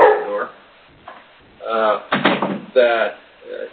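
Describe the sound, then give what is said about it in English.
A dog barks excitedly in a loud, rapid series of about five sharp barks with brief pauses between, slightly muffled, as if coming over a phone line. “Dog's getting excited.”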